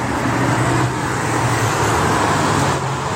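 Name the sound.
road traffic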